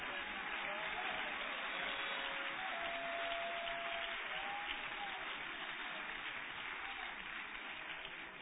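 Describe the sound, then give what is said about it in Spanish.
An audience applauds for Christ, a steady, dense wash of clapping that holds at an even level for several seconds, with faint voices and a few brief higher tones underneath. “¿Alguien le puede dar un aplauso a Cristo?”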